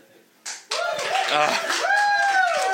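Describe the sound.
Audience applause at a Friendly Town Historical Society storytelling hour breaks out suddenly after a call to eat cake and holds steady, a dense wash of many hands clapping, mixed with crowd voices, laughter and a rising whoop or whistle.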